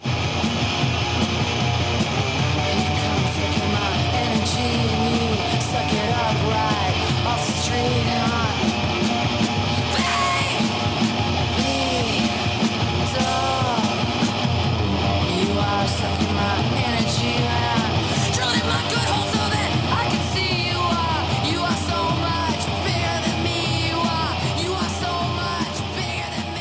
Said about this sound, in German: das Schlagzeug knallt und rumpelt ohne Pause. Und …, die ja eine tolle Sängerin sein kann, sie schreit und kreischt und gurgelt